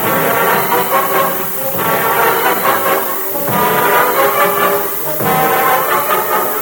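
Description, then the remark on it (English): A loud train whistle sounds in four long, back-to-back blasts over a steady, heavy rumble of a train, with no voices. “He wants us to stop the train. And doggone it, stop the train. Stop the train, quick.”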